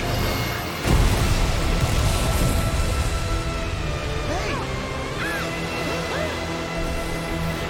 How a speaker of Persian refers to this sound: باورم نمیشه ماشینمو ترکوند.